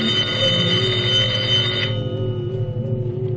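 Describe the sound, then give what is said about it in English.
A telephone rings with a loud, sustained metallic tone. The bright bell clatter cuts off about halfway through, leaving a steadier lower ringing hum, with no one talking. “Now, who is that calling me at these hours?”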